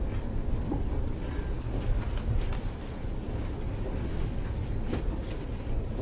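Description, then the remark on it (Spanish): A steady, dense rumble of a train rolling along the rails, heard from inside, with constant low droning and faint rattles, no voices, holding an even loudness throughout. “En el tren viaja con el perro sobre sus piernas.”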